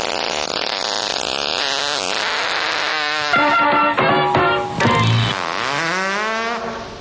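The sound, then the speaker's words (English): A long, loud, sputtering fart from a person waking up in bed, with a raspy, wavering pitch that stretches out over several seconds, with no talking. “I farted and I woke up and it was kind of embarrassing because somebody new next to me”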